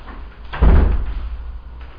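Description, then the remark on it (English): A door is pushed shut by the speaker with one solid, low thud and a brief rattle, then everything settles back into quiet background hum. “I'm just going to close this door, if that's all right.”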